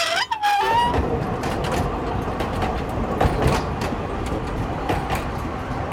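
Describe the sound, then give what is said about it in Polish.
A narrow-gauge tourist train, its locomotive from the 1970s or 1980s pulling two summer carriages, clatters steadily and bumpily along the tracks at up to about 30 km/h, loud, with a continuous rumble and scattered metallic clanks; a brief whistle-like tone rises at the very start. No one speaks. “Pierwszy raz takiej kolei jechałem. Wyboisto jest bardzo buja. Na takich małych torach to tak trzeba uważać na głowę.”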